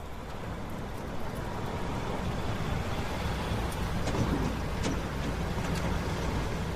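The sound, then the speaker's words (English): A truck with its headlights on rumbles steadily as it pulls up, a deep continuous engine drone with a few faint clicks and squeaks near the end as it rolls to a stop. No one speaks. “A truck with headlights on pulls up.”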